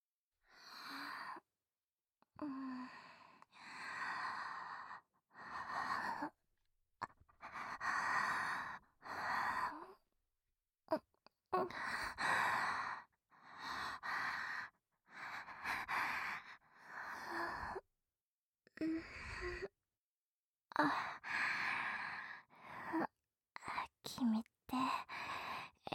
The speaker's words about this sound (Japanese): この息遣い、君とのラブラブキスが悪いんだよ。